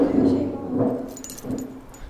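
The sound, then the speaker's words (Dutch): A few light metallic clinks, like keys jangling briefly, sound beneath continuous voices talking over them. “Dit is de sleutel.”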